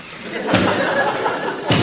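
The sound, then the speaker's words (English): Two heavy sledgehammer blows from a woman knocking down a wall strike about a second apart, each a sharp crashing thud, over a low background murmur of voices. “Why don't you knock the wall down as soon as you close tonight?”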